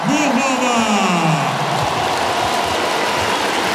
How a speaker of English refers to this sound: Oh, listen to that crowd. Absolutely exceptional.